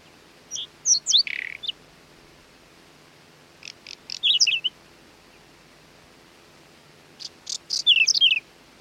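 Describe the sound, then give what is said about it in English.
A whinchat gives three short bursts of its soft clicking call, quick high ticks mixed with thin whistled notes, each phrase separated by a few seconds of quiet, with no voices. “It can frequently be seen sitting on fence posts or small bushes, making a soft clicking call.”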